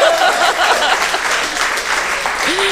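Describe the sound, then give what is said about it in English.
An audience claps steadily for a few seconds, a dense, loud wash of many hands with no pauses, while a brief whoop or vocal rise surfaces near the end. “Applause will get you everywhere.”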